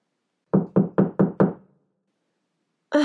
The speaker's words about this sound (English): What time is it? And who is knocking on my door at 8 a.m. in the morning? And on a Saturday?